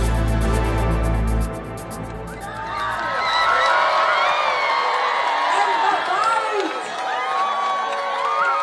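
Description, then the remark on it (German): A crowd of hundreds on the Hostages Square in Tel Aviv, watching on screens as 20 hostages return, cheers and shouts in a loud, sustained roar, with high whoops and whistle-like cries rising above the mass of voices after a brief low rumble at the start. “Ja, so klang das heute auf dem Platz der Geiseln in Tel Aviv. Auf Leinwänden konnten dort hunderte Menschen mitverfolgen, wie 20 Geiseln zurückgekehrt sind.”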